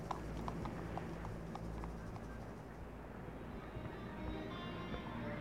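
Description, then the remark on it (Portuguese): Horse hooves clip-clop in a steady, brisk rhythm over a low rumbling background as people ride on horseback to a dance, the hoofbeats clearest early on and growing softer and less distinct toward the end. “A gente ia a cavalo, para nós era uma alegria.”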